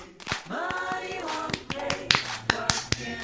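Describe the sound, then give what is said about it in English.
Around eight sharp hand claps land at an uneven pace, crisp and fairly loud, over sustained voices singing or calling out beneath them. “I forgot how many claps.”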